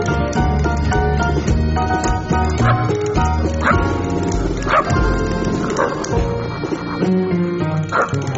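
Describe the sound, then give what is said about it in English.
The host of Free Thought Radio, imitates a dog barking, letting out a handful of loud, spaced bow-wow barks over steady background music. “And, of course, that was … barking.”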